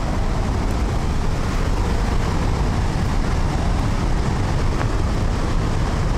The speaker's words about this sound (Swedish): Uppleva hur det är om man närmar sig forsen ännu mer. Då får vi gå upp här för en brantsluttning. Och man hör ju här vattenmassorna. Nu ser vi Handelsforsen också.